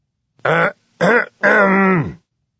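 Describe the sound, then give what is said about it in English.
A man's gruff, voiced cough: two short rough bursts and then a longer drawn-out one, fairly loud, with nothing else around it. “Now he thinks he knows why, coughing gruffly.”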